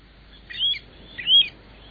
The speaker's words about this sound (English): Birds like the Pacific golden plover we're hearing now.